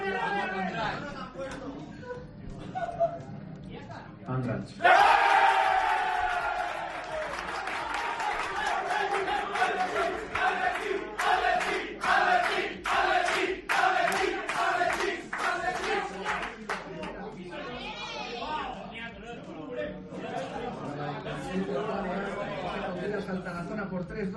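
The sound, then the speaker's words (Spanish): A crowd in Andratx chants "Atleti, Atleti" in a steady rhythm at the Copa del Rey second-round draw that paired them with Real Sociedad, punctuated by loud, regular clapping, with a general hubbub of voices throughout. “¿Se han fijado nuestros oyentes que gritan Atleti, Atleti?”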